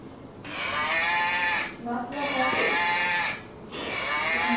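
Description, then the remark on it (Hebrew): A toy cow, pressed to make it moo, moos three times in a row, each moo a loud, buzzy, drawn-out electronic call separated by brief pauses, with no talking over it. “את רוצה שאני אלחץ עליה? שהיא תעשה מו? שהיא תגאה?”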